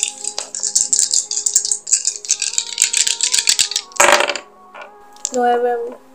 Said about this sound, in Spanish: Así que bueno, tenés que hacer esa tirada, ¿sí? De alerta, awareness. ¿Vas a tirar solamente esos dados o vas a utilizar tu esperanza?